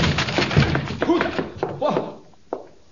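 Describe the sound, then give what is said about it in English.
A door is forced open with heavy wooden thunks and bumps, mixed with strained vocal sounds, then a single sharp knock near the end. “I'll force the door and you enter after me.”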